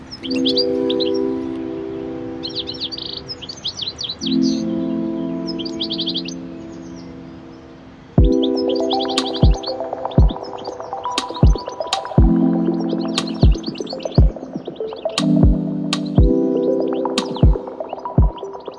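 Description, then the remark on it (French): Bursts of high, rapid bird chirping recur throughout, over a steady low droning hum, with several sharp knocks or clicks breaking in during the second half. “Et c'est vrai que cet oiseau, j'ai trouvé, était magnifique.”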